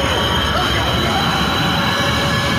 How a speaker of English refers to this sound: That's the sea train!